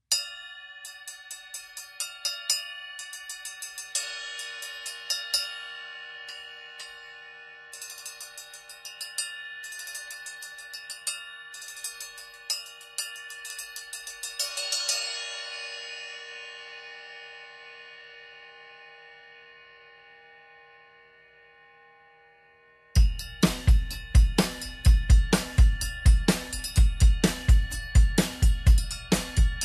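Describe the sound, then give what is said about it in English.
A 13-inch heavy bell cymbal, a small cymbal with a giant bell, is struck repeatedly with bright, clanging, bell-like pings, then left to ring out in a long shimmering decay before a steady groove with low kick thumps begins. “So it's a small cymbal with a giant bell.”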